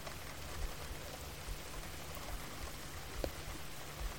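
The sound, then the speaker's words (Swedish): Steady rain falling, a dense, even hiss with a low rumble underneath and a few slightly louder drops or patters now and then. No voices. “Och känna en tacksamhet till att du har möjligheten att uppleva regn.”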